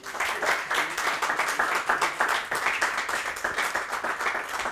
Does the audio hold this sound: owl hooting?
no